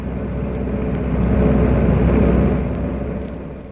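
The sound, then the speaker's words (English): A car drives past, its engine and tire rumble swelling to a peak midway before fading again, with no voices over it. “That car is going to play circuses until they do get you.”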